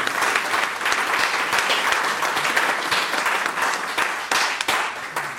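A crowd bursts into sustained applause, dense overlapping claps forming a steady bright wash that holds at an even, fairly loud level throughout, with a few sharper individual claps standing out.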